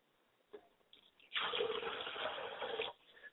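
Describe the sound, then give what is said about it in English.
A glass of water is poured out as a libation to the spirit Yamanja, a steady, gushing splash for about a second and a half. It starts abruptly and stops cleanly, with a few faint clinks and rustles before it. “We pour libation and a glass of water to my mother spirit, and my mother spirit is Yamanja.”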